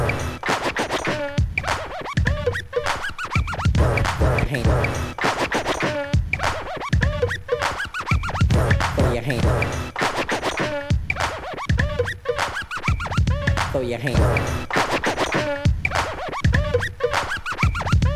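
A DJ scratches records on turntables nonstop, rapid back-and-forth strokes making loud, rhythmic, swooping bursts that rise and fall in pitch, with no voices.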